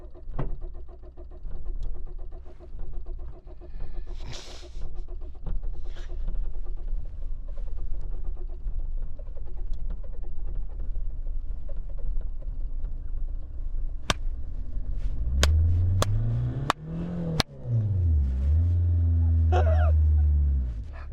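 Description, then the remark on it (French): A petrol car's starter motor cranks the engine on and on with a steady, grinding mechanical drone, for about 6 minutes 50 seconds on the battery, then near the end the pitch swells and sweeps as if the engine is catching, loud. “Après 6 minutes 50 de démarreur.”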